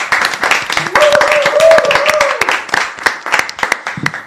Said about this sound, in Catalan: Avui, des de l'estudi central de les Colònies de la Ràdio amb RAC1, rebem amb un fort aplaudiment els nostres locutors habituals.